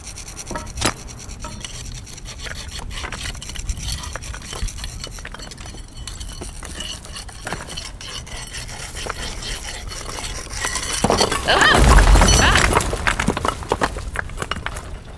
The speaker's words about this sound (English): So if we just chip away at the cement around a few of them, knock out some of the bricks near the bottom, the pressure on the wall might be enough to do it.